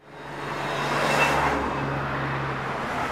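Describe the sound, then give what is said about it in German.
Cars and trucks rush past at high speed from Göschenen toward Andermatt, on the road through the narrow Schöllenen gorge in the canton of Uri, Switzerland: a broad roar swells to a peak and fades, a low engine hum runs underneath, and steady road noise continues throughout. “Auto und Lastwagen fahren in höchem Tempo von Göschenen in Richtung Andermatt.”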